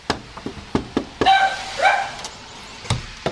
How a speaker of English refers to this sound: That was me back in late February drawing the attention of Karen McCadden's dog when I knocked on the door